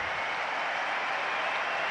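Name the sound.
arena crowd applause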